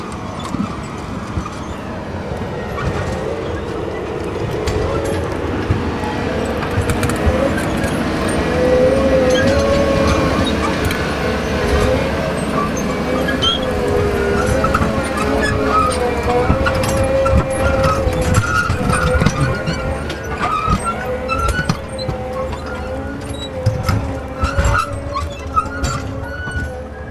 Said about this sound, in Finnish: Sieltä möyrii taas yksi kuorma puuta tästä meidän keskustelupaikkamme ohi.